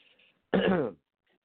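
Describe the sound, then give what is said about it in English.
A single loud, raspy throat clearing lasting about half a second, made by a speaker still recovering from the flu, preceded by faint breathy murmurs and followed by silence. “Got to clear my throat now and then.”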